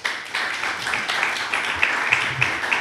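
An audience claps steadily, a dense crowd of hands applauding at once, moderately loud, sustained without pause for a few seconds, welcoming a guest at the Festival Internacional de Juegos de Córdoba.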